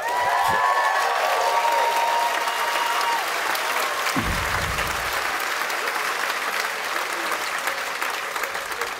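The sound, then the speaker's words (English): Sustained applause from a large audience at a graduation ceremony for the class of 2012, a dense, steady wash of clapping that stays loud throughout, with a few faint whistles and cheers mixed in near the start. “See, as a joke, I wrote hold for applause, and I was actually gonna read that. So you kind of killed my joke.”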